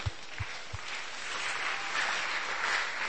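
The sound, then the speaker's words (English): A crowd at a sermon claps for a woman in a steady, dense patter that swells and holds for a few seconds. Three soft low thumps come at the very start, and no one speaks. “Clap for her.”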